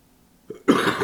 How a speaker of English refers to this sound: Excuse me for this cough. I'm doing the best I can here.